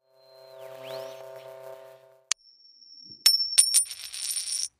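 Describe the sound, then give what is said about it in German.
A historical coin, about 1300 years old, being turned over on a hard surface to show its reverse side: a soft metallic ringing, then a sharp click followed by a few quick clinks and a sustained shimmering ring, with no talking. “Und jetzt drehen wir die Münze mal und gucken uns die Rückseite an.”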